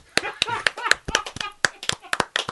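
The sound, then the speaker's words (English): Hands clap together in a quick, slightly uneven series of about a dozen sharp, crisp smacks, a few overlapping as if from several people, with faint voice sounds between them. “we would like to, as a token of our respect, give you the clap.”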